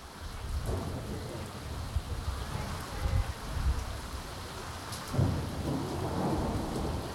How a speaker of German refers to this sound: Freitagabend, 13. Januar 2023. 4 Tage regnet es jetzt schon in Folge. Die Wiese nahe des Tagebaus Garzweiler, südlich von Mönchengladbach, ist zu einem Sumpf geworden.